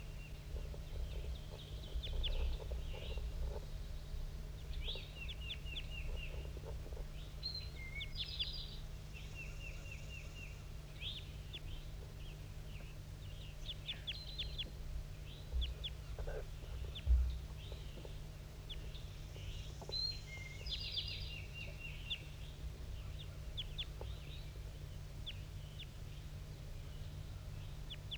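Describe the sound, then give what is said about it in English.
A wild male bird perched at the top of a dead pine gives repeated flight calls, short high-pitched chirps coming in irregular bursts throughout, over a steady low rumble, with no one talking. “That wild male is still up in the top of the dead pine, giving flight calls.”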